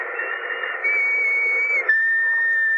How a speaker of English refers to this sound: Remember that whistle? Yes. What about it? I think it might prove no end valuable in this particular emergency. Anyhow, it's worth a try.